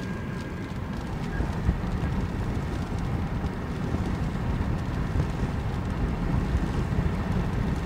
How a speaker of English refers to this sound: As you can hear, it's raining. Yeah, as I drive, I might just pull over if it gets much worse.